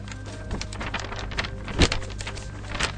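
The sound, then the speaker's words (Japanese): A plain sheet of paper with a release schedule calendar written on it rustles and crinkles in a steady stream of soft, crisp crackles, with one sharper, louder crunch about midway, over a faint low hum and no voices. “わかるかな、これね。紙です。ただの紙ですよ。”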